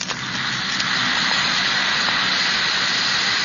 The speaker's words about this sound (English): That's the Alka-Seltzer fizz. It's the lively, cheery, sparkling fizz that you know so well.